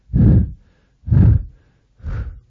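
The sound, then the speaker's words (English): A voice imitates the labored breathing of a dying man, Ramdas, found lying on a roof: three heavy, rasping breaths about a second apart, loud, each one a rough drawn-out exhale with brief silence between, and no other speech. “His legs were stretched. His breathing was...”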